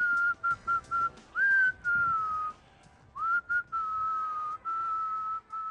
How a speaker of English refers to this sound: So it's about this guy in Portland, Maine, and he walks around whistling all the time. Mm-hmm. And I mean, all the time. He's 31 years old, and he's a very loud whistler, and he talked about why he whistles.